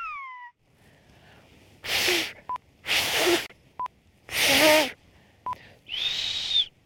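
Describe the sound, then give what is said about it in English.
Someone attempts the whistled language of the Canary Islands: a short falling whistle, then three loud breathy blasts of air with brief faint tones between them, ending in a clearer arching whistle. No talking. “The Canary Islands have a song of their own, in a whistle carried on the wind.”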